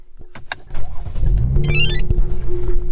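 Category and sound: vehicle, sports car engine revving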